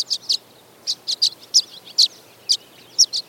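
Violet-green swallows chatter in a flock gathered on electrical wires in the western United States before migration, a run of quick, high, thin chirps and twitters coming in short clustered bursts, some doubled, with no voices.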